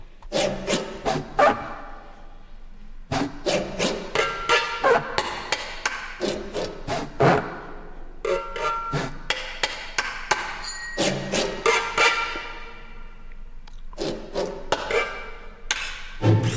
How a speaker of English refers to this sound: Ça c'est un marteau, donc. Here there is the sound of a hammer,